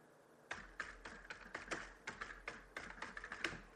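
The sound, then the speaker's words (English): Typing on a computer keyboard to enter the title First Dictation into an edit box: a quick, slightly irregular run of crisp key clicks, about a dozen strokes, fairly soft, with no voices. “I'm going to type it in right now.”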